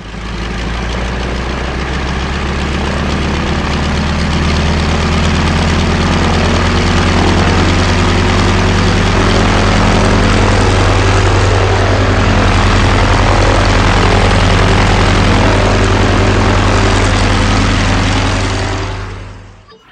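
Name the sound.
propeller airplane taking off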